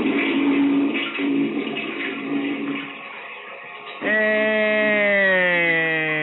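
A toilet flush: about four seconds of steady rushing, gurgling water, then a loud, tonal whistle-like sound that slides slowly downward in pitch until the end.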